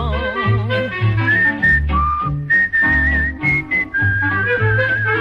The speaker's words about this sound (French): Chaque matin, je siffle en me rasant.